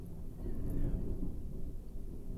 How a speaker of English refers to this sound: That would be thunder, by the way, if you can hear it. We got a pretty good storm going right now. It's kind of poetic, really, this episode and the thunder.